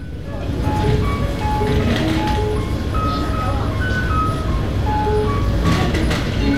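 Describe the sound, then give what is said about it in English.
A simple, high-pitched electronic locator tune from a tactile station map with braille for blind people in an MTR station chimes repeatedly in short steady notes, loud over a dense, continuous rumble of crowd and machinery noise with indistinct voices mixed in. “This special little tune can be heard in most MTR stations, and it's quite loud over the usual busy hum.”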